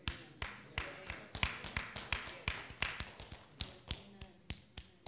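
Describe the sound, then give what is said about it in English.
A single person claps alone at a steady, unhurried pace, roughly twenty sharp, crisp hand claps over a few seconds, with no one else joining in and no talking. “That felt like a sympathy clap.”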